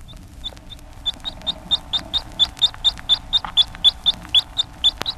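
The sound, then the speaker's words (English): A baby chick gives soft, contented peeps: a steady string of short, high, pleasant chirps, about three or four each second, growing a little louder as they go, with no talking. “When the baby chick is returned to its companions or to the warm incubator from the cold or is given food, it gives pleasure or contentment notes.”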